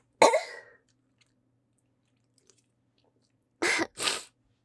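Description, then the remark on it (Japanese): A loud, explosive allergy sneeze bursts out alone, trailing off briefly, then after a few seconds of quiet come two quick, harsh coughs in a row. “ちょっとね、アレルギー持ちで、くしゃみが止まらないことがあるかもしれないんですが、その辺はご了承ください。”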